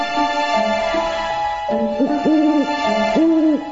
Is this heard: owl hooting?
yes